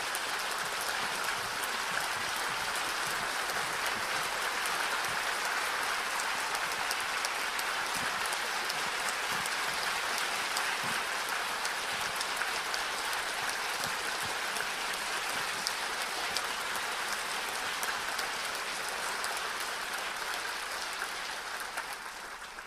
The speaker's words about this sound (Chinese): 这个时候我哋用最热烈嘅掌声欢迎演人法师，恭请法师上座为大家主讲管理好自己，又请法师。